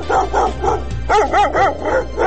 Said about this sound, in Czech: Psi lutalice sve učestalije napadaju građane Sarajeva.